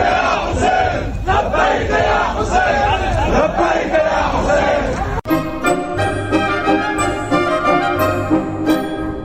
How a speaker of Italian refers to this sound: Chi poteva è venuto a renderle omaggio, unendosi alla folla commossa e arrabbiata.